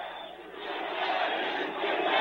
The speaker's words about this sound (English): Well, what a crowd this one is. And you got thousands and thousands of people outside. They're taking buses and working to get over here. Wow. Crowd going wild.